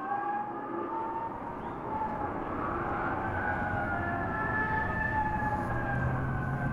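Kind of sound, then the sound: vehicle, police car sirens wailing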